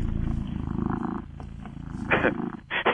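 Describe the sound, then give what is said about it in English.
A cat purrs steadily, a low continuous rumble with a rhythmic pulse, interrupted near the end by a couple of brief louder bursts. “It's fun listening to kitty cat purrs while you're doing a radio show.”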